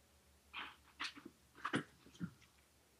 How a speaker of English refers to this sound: here, I'm going to let my dogs out one moment. Monkey, move outside. Go on out, Moo. Come on.